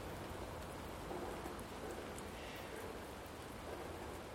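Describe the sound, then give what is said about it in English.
Raindrops patter and drip off trees in a steady, soft hiss, with occasional heavier drops landing as a breeze moves through. The rain is no longer falling from the air. No one speaks. “And I'm getting splashed with raindrops, but it's off the trees, it's not in the air.”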